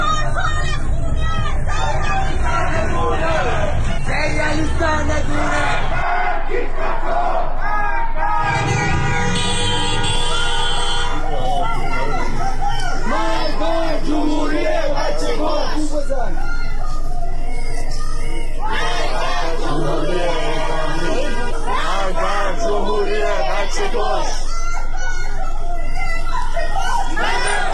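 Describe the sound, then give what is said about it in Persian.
A large crowd of protesters chants slogans in the streets of Tehran, many voices shouting together in loud, rhythmic bursts over a constant roar of hubbub and scattered cries. “معترضان در محلات مختلف تهران از شرق تا مرکز و غرب پایتخت شامل هفت حوض، بلوار فردوس، انقلاب، صادقیه، ستارخان، شهرک اکباتان و شریعتی به خیابان‌ها آمدند و شعار دادند.”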